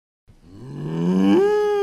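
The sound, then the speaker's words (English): A single drawn-out, loud cow moo from Milky the Milk Cow in a Dutchland Dairy Milk radio advertisement, starting low and sliding upward in pitch before holding steady. No other sounds or voices accompany it. “It's Milky the Milk Cow, reminding you to drink your milk.”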